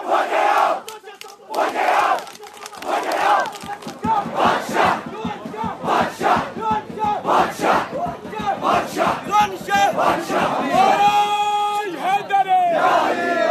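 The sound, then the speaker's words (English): A crowd of voices chants at a shrine festival, outside the shrine near the door to the saint's cave, in loud, rhythmic bursts. People stand in circles, take turns lifting each other onto their shoulders and clap, with shouted call-and-response phrases rising and falling over a continuous roar, ending in a sustained, high-pitched collective cry. “Chanting and reciting, they take turns holding each other on their shoulders, leading chants while others respond, clapping”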